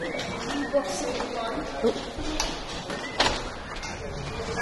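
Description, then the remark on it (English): A door is opened with a few short clunks and rattles spread over several seconds as people head out to go home, while indistinct voices murmur in the background. “We can just head out the door.”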